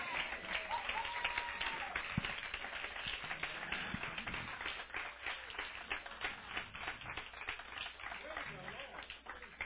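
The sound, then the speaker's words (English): Steady applause from a church audience honoring two young men fills the whole stretch, a dense crackle of many hands clapping together at an even loudness, with some crowd murmur mixed in beneath. “Let's give both of these young guys a round of applause.”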